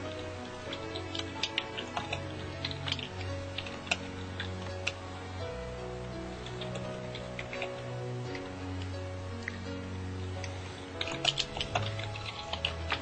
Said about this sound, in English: Okay, see, and I'm typing and I'm going quiet.